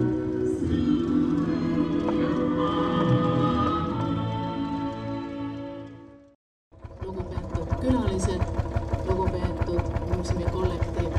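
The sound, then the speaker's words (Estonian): A Lanz Bulldog tractor engine runs in an arena at an exhibition opening at the Estonian Agricultural Museum, with a heavy, steady drone, cuts out briefly, then returns with a rapid, regular chugging beat that stays loud to the end. “Vahepeal on siia areenile jõudnud traktor Lants Bulldog”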